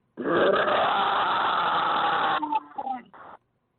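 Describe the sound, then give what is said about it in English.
A voice imitates a Bengal tiger growl as Mike the Tiger on a show: one long, loud, raspy roar lasting about two seconds, then a few shorter, rougher grunting bursts before it stops abruptly. “We're gonna let that tiger out, that Bengal tiger.”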